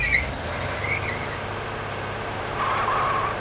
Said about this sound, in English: Come on, there's always a lot of traffic downtown.